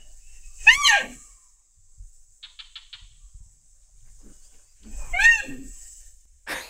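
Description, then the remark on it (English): Two high, whistling whine calls with wavering, stacked harmonics, each sliding downward into a low grunt, separated by a few soft clicks. These are Sumatran rhino vocalizations, with no talking. “We actually have some sounds of the Sumatran rhino.”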